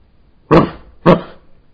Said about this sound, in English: But that experience is so stained by thoughts about the dog or dogs or oneself hearing the dogs that it's very difficult to hear just the pure, direct hearing of the dog barking.